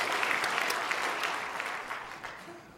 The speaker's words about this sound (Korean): 예, 출연하신 분들 위해서 박수 한번 칩시다. 예.